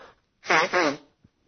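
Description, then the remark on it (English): A single loud sneeze with a voiced two-part burst, the build-up flowing straight into the explosive release, then quiet with a faint click after. “I get a sneeze, sorry.”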